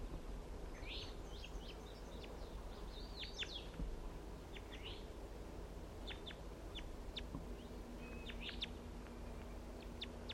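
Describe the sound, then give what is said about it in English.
A male wild bird calls repeatedly in short, high-pitched chirps and sharp whistled notes, scattered irregularly over a steady low background hum, with no talking. “And that's him calling right there.”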